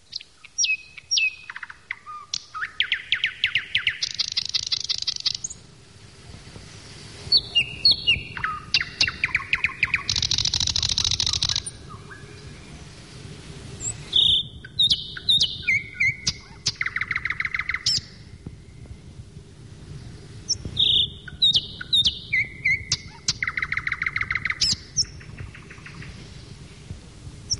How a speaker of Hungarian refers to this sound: Most tehát a nagy fülemüle éneke következik.